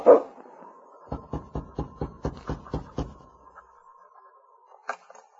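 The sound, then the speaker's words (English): The big lead dog of a Mounted Police sled dog team, King, lets out one sharp bark, then a quick, evenly spaced run of short barks over a thin, steady whine that trails off into soft whimpering. No one speaks. “As he walked toward the door, his big lead dog, King, followed close at his side.”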